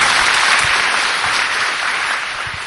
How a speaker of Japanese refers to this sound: 皆様もう一度大きな拍手をお願いいたします。